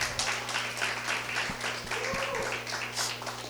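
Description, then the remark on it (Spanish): A crowd breaks into sustained applause, a dense, steady wash of many hands clapping at even loudness for several seconds over a low, constant electrical hum. “Aleluya, el aplauso.”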